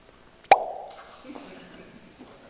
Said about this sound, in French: Le bouchon, il saute.